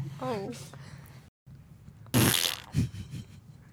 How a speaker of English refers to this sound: Any farting comments? Like fart.